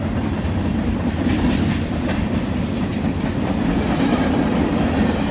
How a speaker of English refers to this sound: Ce train qu'on entend passer, c'est le train qui passe à la gare de Hazelhurst.